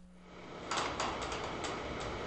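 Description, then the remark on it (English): A lone, loose sheet of aluminum siding creaks and rattles in uneven metallic groans in 130-degree heat at a roofless, wall-less water treatment plant built to service nearby oil fields in Basra, southern Iraq, over a steady low background hum. “A lone sheet of aluminum siding creaks in 130-degree heat at a water treatment plant built to service the nearby oil fields.”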